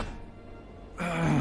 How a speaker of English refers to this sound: Granddad starts to cough.